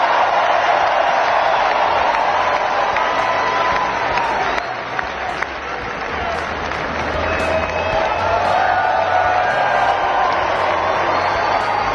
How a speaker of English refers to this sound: It was one of the very first things Donald Trump did after being sworn in. He was there at Capital One Arena. You can hear the crowd screaming.